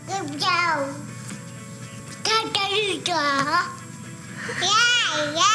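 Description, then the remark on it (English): A baby babbles and coos "goo goo gaga" in a string of high, sing-song syllables, rising and falling in pitch with short pauses between bursts, fairly loud. “Turns out there's a lot to be learned from the goo goo gaga sounds that babies make.”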